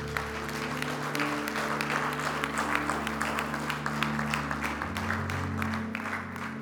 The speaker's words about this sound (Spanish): Uf, dale un fuerte aplauso al Señor si tú lo crees.